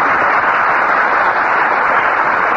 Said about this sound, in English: Thank you, and good evening, ladies and gentlemen. It's too bad to have you applaud so frequently there.